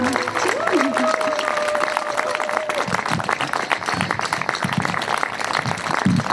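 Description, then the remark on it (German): Sustained audience applause after a speech about Ecuador, a dense crackle of many hands clapping steadily for several seconds, with a brief whistle-like tone and faint voices early on. “Bitte nochmal einen großen Applaus.”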